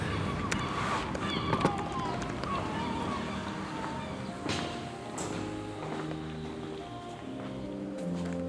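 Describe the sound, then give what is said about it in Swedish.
Gulls screech repeatedly outdoors outside Heliga Trefaldighets kyrka (Holy Trinity Church) amid a busy, steady background of ambient noise, with the harsh calls rising over the din, along with what sounds like footsteps. “Men vi tar och flyr Måsskränet in till Heliga Trefaldighets kyrka, byggt på 1600-talet av stadens grundare, den danske kungen Christian den IV.”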